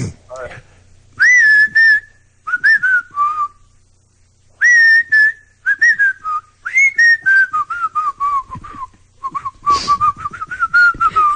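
Someone whistles a melody up close, tonal phrases gliding and dropping in pitch with short breaths between them, carrying on for about eleven seconds with no talking.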